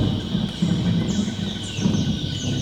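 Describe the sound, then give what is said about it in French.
A low, rolling thunder rumble swells and fades under a steady, high insect drone, with faint bird calls woven through the equatorial rainforest ambience of French Guiana. “Alors, laissons l'orage s'éloigner et grimpons au sommet des grands arbres à 40 mètres d'altitude pour y découvrir le lieu le plus vivant du monde.”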